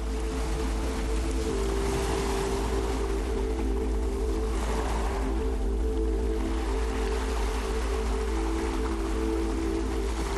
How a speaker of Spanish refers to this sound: Estamos escuchando el agua, el mar del Cantábrico, esas olas rompiendo en la playa de Ogueya, como decías, y también se puede apreciar ahí un plis del fuego, ¿verdad?